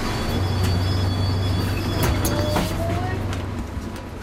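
A bus rumbles past, a steady low engine drone with a faint rising whine and brief clatters, loud throughout before easing slightly toward the end.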